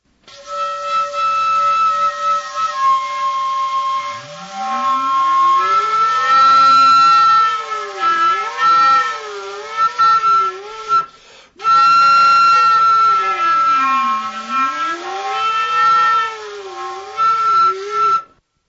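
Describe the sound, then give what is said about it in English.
A flute produces combination tones: sustained high notes that bend and slide, while eerie combination tones sweep up and down beneath them in arcs, with a brief break near the middle. “Combination tones.”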